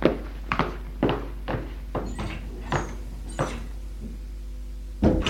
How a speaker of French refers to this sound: Il va ouvrir une porte. Qui donne dans une cour. Où j'ouvre la porte, là, au fond de la cour. Et elle donne à côté. Merci, il lui donne la pièce et traverse la cour pour ouvrir la porte.